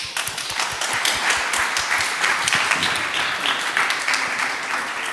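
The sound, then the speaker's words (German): Steady audience applause at an event welcoming the next speaker: many hands clapping in a dense, crackling wash of claps at a fairly loud, even level for several seconds, with no voices standing out. “Applaus für die.”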